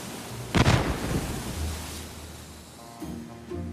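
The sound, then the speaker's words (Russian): A single heavy boom of a cannon shot fired from a ship bursts out, followed by a long low rumble that slowly fades away over a steady background wash. “Но не успели мы приступить к совещанию, как с корабля раздался пушечный выстрел, и на нем замахали флагом.”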